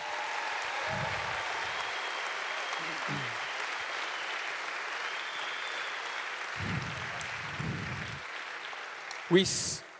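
A church audience claps in sustained, dense applause for its Bible school students, holding steady for the whole stretch, with a few low murmurs underneath and a brief louder burst near the end.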